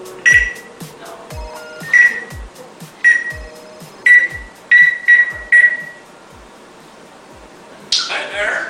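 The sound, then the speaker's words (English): A bird mimics cordless phone dialing tones: seven short, high-pitched electronic beeps at uneven intervals, each with a sharp click, followed by a brief hissy burst at the end. “The bird is making the beeping sound, like he's dialing the phone.”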